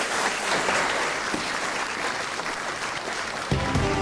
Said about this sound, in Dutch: Ik wil groot applaus voor alle lijsttrekkers. Dank u wel.